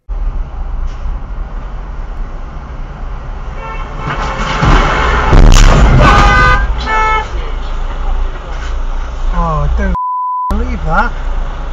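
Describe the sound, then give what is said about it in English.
Road traffic noise with a car horn honking repeatedly, then a loud burst like a collision in the middle, in which a female driver on the phone is hit, followed by more beeping and muffled voices. “As you can see, the female driver that was hit straight on the phone.”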